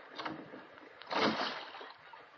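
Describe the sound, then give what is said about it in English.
Water sloshes and splashes against a small rowboat as it rocks while people step into it and sit down, with a louder surge of splashing midway through, fairly full, no voices. “I'm in the boat now.”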